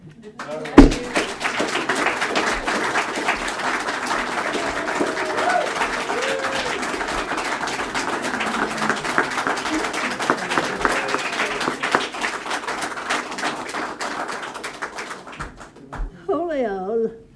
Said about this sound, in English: Look at this family cheering for you. Did you see this? You were so busy getting back to her, you missed all this love they were sending you.